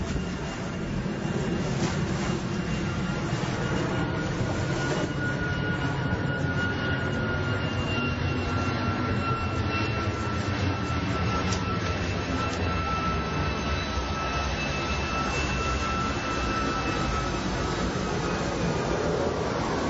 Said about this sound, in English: Okay, anyway, now, mind you, those are separate aircrafts. The only thing that I did there was to taking a simple tape player. I didn't get any sophisticated microphone to enhance it or anything.